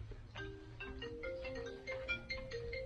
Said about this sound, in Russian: Телефон. Да, уже не звонит. Поздно.